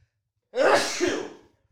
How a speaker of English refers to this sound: I gotta sneeze.